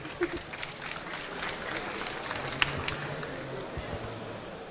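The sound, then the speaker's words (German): An audience claps steadily in a dense, continuous patter of applause lasting several seconds, welcoming a talk about Christmas cookie baking, with a murmur of crowd noise underneath and no clear speech. “Applaus.”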